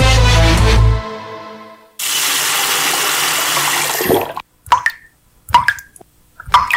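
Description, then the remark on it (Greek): A tap runs in a steady rush of water for about two seconds, then cuts off, leaving a few separate drips plopping one by one. “Το νερό μας δεν είναι δεδομένο. Μην κάνεις πως δεν τρέχει τίποτα.”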